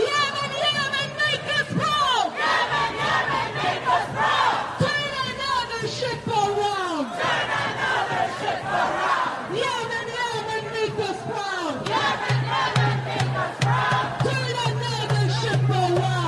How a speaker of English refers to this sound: And there was, listen to this chant in New York City, Cut 15.